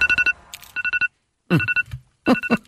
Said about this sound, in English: Please, for the love of God, stop that noise. That's the sound that my alarm makes when I wake up in the morning.